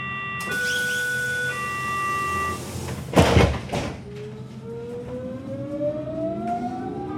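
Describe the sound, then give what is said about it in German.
On a Friday morning, a Berlin S-Bahn train's door warning signal sounds in steady tones, then the doors slam shut with a loud burst, and the electric motor whines upward in pitch as the train pulls away. “Freitagmorgen in der Berliner S-Bahn.”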